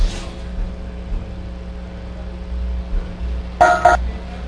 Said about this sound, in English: And, oh, we have a caller.